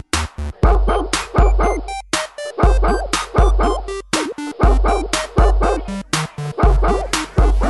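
A dog barks repeatedly in quick, sharp bursts, loud, with short yips and whiny tones between barks, continuing steadily without pause and no one speaking.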